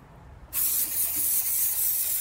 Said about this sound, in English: I love the spray because I can spray and get coverage on the whole hut, the whole enclosure.